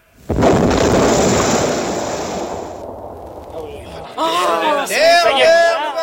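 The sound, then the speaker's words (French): A giant cannon fires a shell with a sudden, deafening blast, its roar rumbling on for several seconds before fading, then a man starts calling out loudly. “Édition spéciale, l'obus est parti.”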